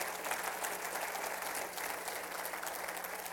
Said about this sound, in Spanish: ¿Cuántos le pueden dar un aplauso a Cristo, hermano?